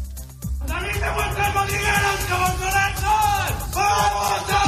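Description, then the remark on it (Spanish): A large crowd of students shouts sexist chants together in loud, drawn-out unison phrases, briefly pausing for breath before the chanting resumes, energetic, at the Colegio Mayor Elías Aguja university residence hall. “Los gritos, desde luego, estaban fuera de lugar y eran machistas, pero las chicas del Colegio Mayor de enfrente, en gran medida, le quitaron hierro a un asunto que casi se convirtió en una cuestión de Estado.”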